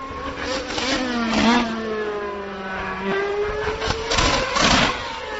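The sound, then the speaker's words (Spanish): A Mercedes and a Red Bull Formula 1 car pass one after another, engines dropping pitch in stepped downshifts as they brake into a corner, loud with a sharp rasping whine. “A ver, vamos a escuchar Mercedes y Red Bull el sonido.”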